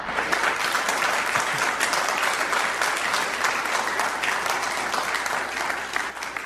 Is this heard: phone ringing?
no